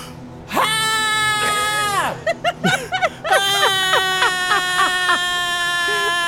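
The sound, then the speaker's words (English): A loud, shrill human scream held for a full breath, breaking briefly into choppy yelps before rising again into a sustained, wavering wail. Intense, with no talking over it. “Just a full breath of scream.”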